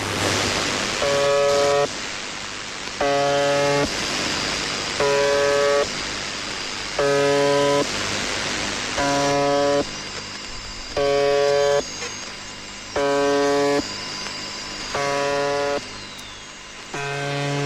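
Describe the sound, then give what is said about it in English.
A droning shortwave numbers-station buzzer, broadcasting since as early as 1976, sounds in steady one-second bursts with short gaps, repeating about nine times over a constant hiss of radio static. No voices. “Let's listen to the buzzer real fast.”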